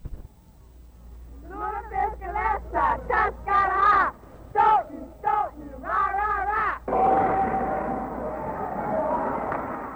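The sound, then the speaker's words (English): A crowd of voices chants a rhythmic high school cheer about lutefisk in Stoughton in short, punchy syllables, then bursts into sustained loud roaring and yelling that carries on to the end. “Lutefisk is also the basis of a wholesale food concern and the basis of a unique high school cheer.”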